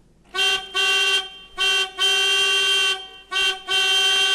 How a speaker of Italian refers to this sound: Il clacson.